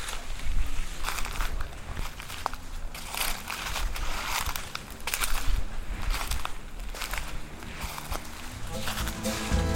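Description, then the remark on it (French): Steady crunching footsteps through dry dead leaves at the Orangerie Fusis, each step a brittle rustling crackle in an uneven walking rhythm, with faint voices murmuring underneath. “Voilà, et on marche sur des feuilles mortes.”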